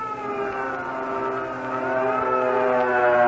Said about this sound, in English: What's that? That signal red, the alert. That means we spotted the enemy planes coming over.